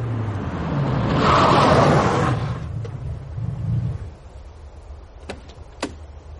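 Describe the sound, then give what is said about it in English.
A car sweeps by on the road, its engine rumble and tyre hiss swelling to a peak and then fading away, followed by two brief sharp clicks. “Mind out, car coming.”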